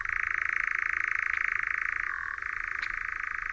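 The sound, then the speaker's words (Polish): A European nightjar gives a continuous, rapid mechanical churring trill that modulates between two pitches, running unbroken and briefly dropping in pitch before returning, like a steady purring rattle with no voices present. “Lelki, modulując na 2 tony wysokości dźwięku, odzywają się w ten sposób bez przerwy przez kilka do kilkunastu minut, a z niewielkimi przerwami od zmierzchu aż do świtu.”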